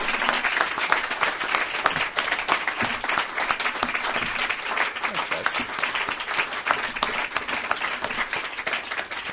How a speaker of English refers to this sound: Well, that concludes our debate. A round of applause for our candidates, please.